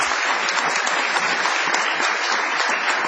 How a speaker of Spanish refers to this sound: Bienvenidos a nuestro galponcete de la calle Gorriti. Vamos a extender esta ovación para honrar a Patricio Barton.